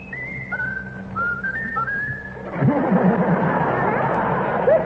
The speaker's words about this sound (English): Really, the song you like best. Whistle your favorite tune. Now, whistle your favorite tune.